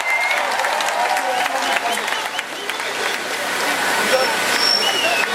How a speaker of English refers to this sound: Thank you. Let's raise our hands for them. Let's have all the applause for them.